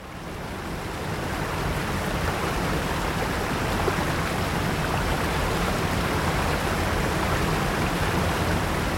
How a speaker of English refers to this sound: Standing beside a waterfall is definitely not a quiet experience. And yet we don't condemn this incessant, overwhelming roar as noise pollution, the way we would a jet plane overhead.